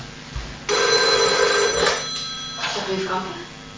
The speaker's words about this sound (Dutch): Ik ga even roeren met glas. Met glasjes.